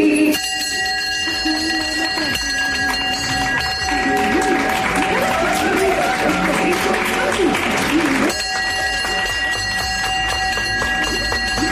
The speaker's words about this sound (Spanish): Es el sonido de una campana con la que enfermos de cáncer celebran la vida y la victoria frente a esta cruel enfermedad. Se instaló hace unas semanas en el hall principal para que aquellas personas que se curen y lo deseen puedan hacerla sonar